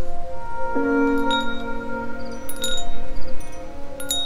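Glass wind chimes made of little glass angels, hanging over Odette's porch, ring in a fresh early autumn breeze, with scattered bright clinks over a few seconds and sustained tones lingering between them, moderately loud, with no voices.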